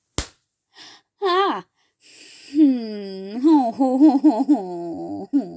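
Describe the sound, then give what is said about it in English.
A single quick, light, playful slap lands at the start, followed by breathy gasps and drawn-out whimpering, wordless vocal sounds. “What a cute little play slap.”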